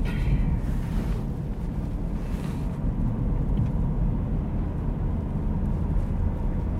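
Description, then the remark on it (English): A covered truck drives past, a loud, steady low engine drone lasting several seconds, with a brief high hiss at the start and wind buffeting the microphone. “That was a covered truck that just came.”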